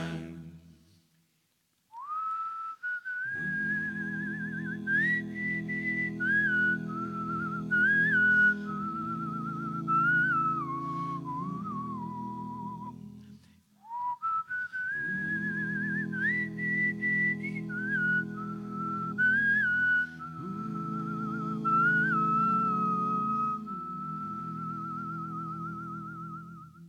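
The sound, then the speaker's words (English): A clear human whistle carries a lilting melody in two long phrases, closing an a cappella song, backed by sustained low voices singing harmony without instruments, before fading out; performed at the BBC's Maida Vale Studios. “treating us to an a cappella track there, with just the little touch of whistling to bring it to a close.”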